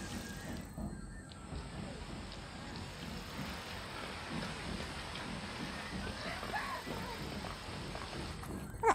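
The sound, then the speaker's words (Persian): Sudden rain that has just started patters down in a dense, continuous hiss across the whole stretch, even in level, with a brief louder knock near the end. “یهویی بارون گرفت.”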